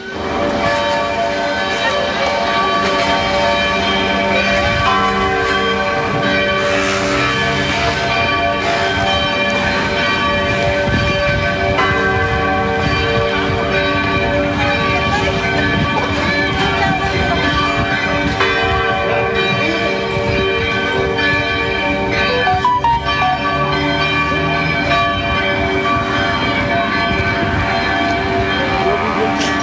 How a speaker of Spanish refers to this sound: Esto fue antecedido por el toque de las sirenas de bomberos y también las campanas de la catedral. Pasemos a escuchar ese instante, el sonido de las campanas aquí en el centro de Valdivia.